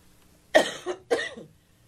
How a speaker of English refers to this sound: Excuse me, I am coughing. I apologize.